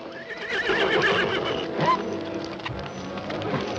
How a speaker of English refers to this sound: horse rears up and breaks free, then trots off along the path.